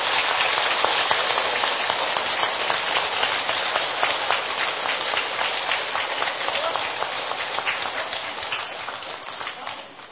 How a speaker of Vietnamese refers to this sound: I would like to invite Mosven Thich Thiện Hữu, Vice President of Buddhism Today Association, to present the award tokens to the award winners. Xin chào một tràng pháo tay thật lớn.